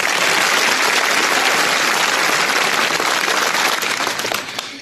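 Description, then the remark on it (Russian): A large audience at the Comedy Club show applauds loudly with dense, continuous clapping that holds steady for several seconds before starting to thin out at the very end. No one speaks over it. “Под ваши аплодисменты.”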